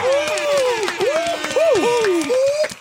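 Scattered hand clapping mixed with loud, swooping whoops and hoots, a small group cheering for a few seconds.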